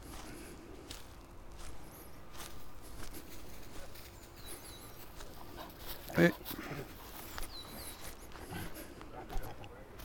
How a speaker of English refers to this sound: So, I'm greeted by a couple of dogs and people who are nice, friendly.